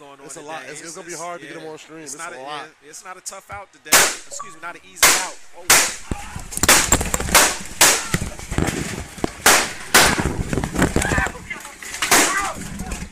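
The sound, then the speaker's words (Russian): Sharp, loud pistol gunshots crack out in an irregular burst, one after another, while people shout and scream in panic during an internet livestream of a video game tournament; a voice is heard talking before the shooting starts. “Внезапно в трансляции раздались звуки выстрелов и крики людей, после чего трансляция прервалась.”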